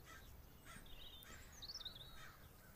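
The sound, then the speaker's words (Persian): Crows caw faintly, a few harsh calls overlapping against a low outdoor background hum, with no one speaking. “کلاغا خیلی سر و صدا میکنن.”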